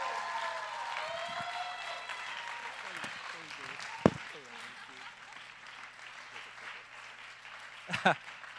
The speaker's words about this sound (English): But if you clap really loud for him, I think we could convince him to come back one more time.